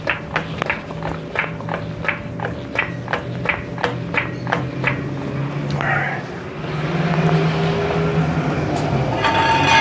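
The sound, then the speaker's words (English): A rapid, steady series of sharp metallic clicks as a floor jack is pumped to raise a car off its jack stands, over a low background hum, then the clicking stops and a broader rushing noise takes over. “Jack is lifting the car now.”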